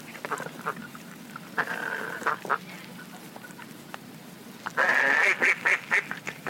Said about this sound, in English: Okay, imagine you guys are in the park, chilling by a little lake or a pond, and you're feeding the ducks.